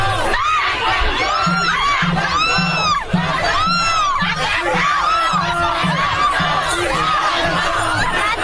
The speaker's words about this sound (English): You get the idea. Pandemonium. They're screaming free Palestine.